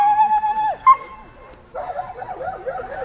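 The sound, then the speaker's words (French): A dog lets out a long, steady high-pitched howl that breaks off, then after a short pause gives a run of wavering, yelping whines and barks, while everyone is kept back off the field for the dog. “Avec le chien, on va parquer tout le monde derrière, personne sur le terrain.”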